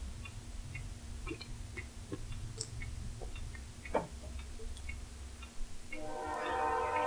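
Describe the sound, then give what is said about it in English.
A low, steady rumble with scattered rhythmic clacks of a train rolling past, swelling at the end into a loud, layered, tonal blare. No one speaks. “why are the trains are like 17 fucking times louder here lately?”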